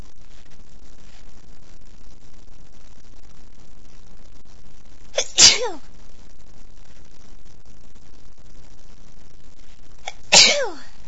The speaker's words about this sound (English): Feels so good though. Oh, big ones. I've actually been sneezing.